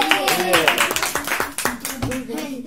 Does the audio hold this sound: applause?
yes